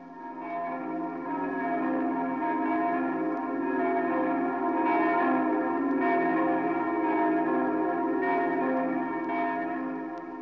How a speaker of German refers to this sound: Vom Dom, dessen Glocken die Stadt hallen, nach Charlottenburg säumen die Berliner in dichter Menge die Straßen, durch die letzte Fahrt des greisen Kaisers geht.